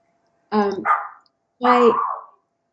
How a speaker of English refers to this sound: I don't know what my neighbor's dog is having a freak out. Sorry.